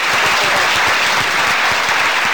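An audience claps loudly and steadily, a dense wash of many hands filling the whole moment with no voices rising above it.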